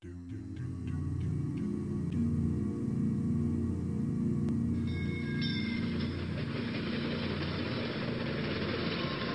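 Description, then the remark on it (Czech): A train rattles and puffs uphill, a heavy low churning with a rhythmic pulse, growing rougher and hissier partway through, with no voices. “Tou dobou seděl profesor Arnošt Hejhola z Přírodovědeckého institutu ve vlaku, který drkotal a funěl do kopců.”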